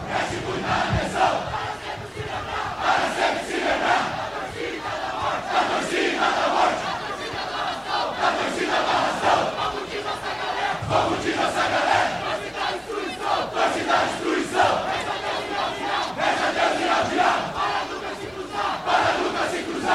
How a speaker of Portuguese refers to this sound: Olha o grito de guerra aí